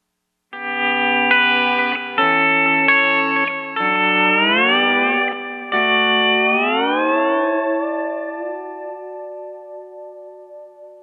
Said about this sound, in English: Now, delay blends very well with most other effects. I often use it with a touch of reverb, as do many players. Here's that sound.